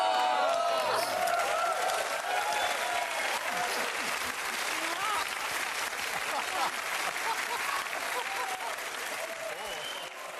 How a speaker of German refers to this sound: Also was man eben hört, aber nicht sieht, ist, dass das Publikum völlig ausrastet.